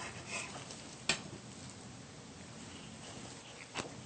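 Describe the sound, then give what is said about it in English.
A knife cuts a lime in half on a cutting board, giving two sharp knocks a few seconds apart against a quiet, steady hiss. The lime is being halved so its juice can be squeezed out for guacamole. “Now, for the lime, cut it in half.”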